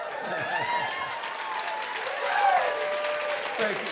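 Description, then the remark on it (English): An audience applauds steadily throughout, a dense wash of many hands clapping at an even loudness, with faint voices calling out over the applause. “We enjoy those applause.”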